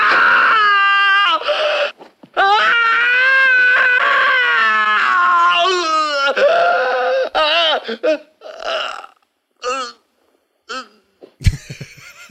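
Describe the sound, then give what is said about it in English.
A woman screams loudly and shrilly in a film scene, a long wavering wail lasting several seconds, then breaking into shorter strained cries and gasps with brief pauses between them. “That's top five screams of film set.”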